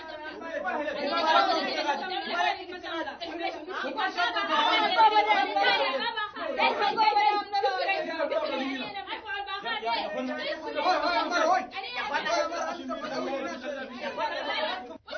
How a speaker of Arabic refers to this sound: هذه أصوات لصراع في مورد المياه في دارفور أمر عادي، حيث يؤدي أحيانا إلى القتال